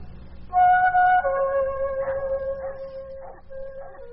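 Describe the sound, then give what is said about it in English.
The dogs of the town of Broachville howling on a warm August morning in 1901: one long, steady howl that steps down slightly in pitch and holds, while shorter yelping cries from other dogs break in over it at intervals. No one speaks. “The sound of the town's dogs first alerted the people of Broachville to the fact that there was a stranger in their midst.”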